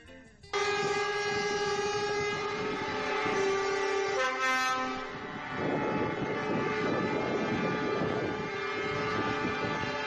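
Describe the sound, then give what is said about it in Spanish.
Loud, sustained blare of the horns of more than 300 trucks honking together during a protest in the centre of Pamplona, Spain, overlapping tones droning on almost without pause after a brief quiet start, with a noisy street din underneath. “Bocinas de más de 300 camiones que se han manifestado por la capital para...”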